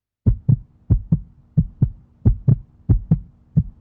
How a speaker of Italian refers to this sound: Non ho ancora iniziato a correre, ma mi accorgo che la mia frequenza cardiaca è accelerata.